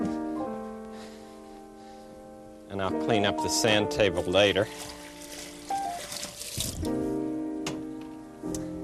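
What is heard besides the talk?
water being poured out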